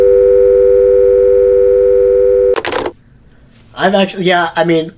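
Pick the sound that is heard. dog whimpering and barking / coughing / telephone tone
telephone tone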